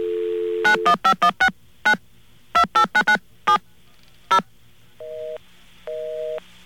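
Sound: telephone number being dialed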